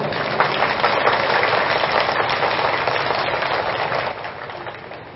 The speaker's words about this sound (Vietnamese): Do đó, để thể hiện sự cam kết về việc tổ chức lễ tưởng niệm Phật đản hàng năm tại tư gia và nghỉ trong ngày nào đó, thì mong các quý Phật tử hãy dâng cao tràng vỗ tay thật lớn.